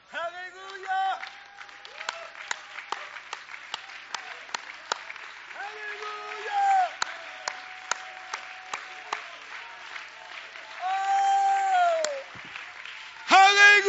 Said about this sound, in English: Listen, you can clap your hands. You can raise your hands. You can still thank God for the truth. Why don't we stand and clap our hands right now?